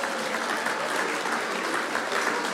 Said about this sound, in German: Wiesn ist praktisch schuldenfrei und liegt auch im Burgenland an erster Stelle. Na, da hat es natürlich einen Applaus verdient.